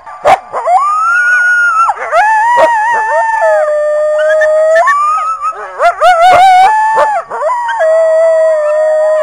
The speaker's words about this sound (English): Well, if you're out there and you're going, did I hear a coyote or did I hear a wolf? Well, a coyote is a higher pitched, and it usually starts with a few yips. So you might hear like yip, yip, and then you hear the howl.